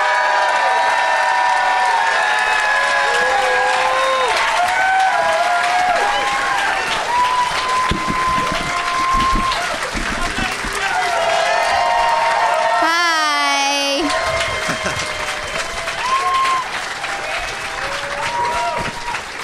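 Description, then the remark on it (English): Loud, sustained audience applause with cheering and whoops as guests are welcomed out onto a show, dense clapping filling the whole stretch, plus a brief high shrill whistle partway through. “So let's get them out here. Please give it up for”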